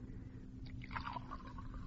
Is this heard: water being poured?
yes